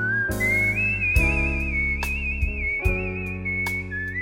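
The Godfather film theme melody whistled clearly and steadily with gentle vibrato, floating over a soft sustained instrumental backing whose chords shift a few times; no voices.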